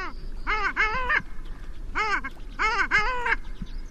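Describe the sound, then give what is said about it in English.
Long-tailed duck calls: loud, nasal, yodeling notes in quick bursts of two or three, repeated several times over a faint background hiss. “But if one bird stands out as the most beautiful diver, it has to be the long-tailed duck.”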